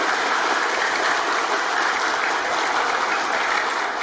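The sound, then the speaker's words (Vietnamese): Sustained applause from a large crowd fills the whole stretch, a dense steady roar of many hands clapping at even loudness with no voices standing out; at Thiên Quang pagoda, welcoming donors who brought 200 gifts for blind Buddhists. “Chúng ta dành cho một tràng pháo tay thật lớn để chào mừng cô chú”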